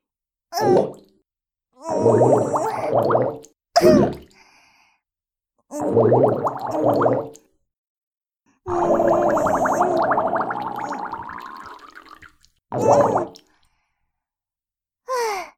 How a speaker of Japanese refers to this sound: こうやって、洗面器を逆さにして沈めて、そこにね、おならを溜めるの。 こうやって。